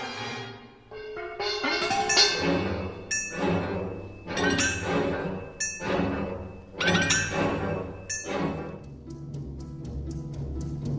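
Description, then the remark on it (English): Steel mixing bowls are struck hard again and again as part of a film score, about seven loud clanging hits in an uneven rhythm. Each one rings out with a twangy metallic shimmer over a low, sustained rumble. “Okay, coming up here we'll have the banging on those twangy steel mixing bowls I mentioned.”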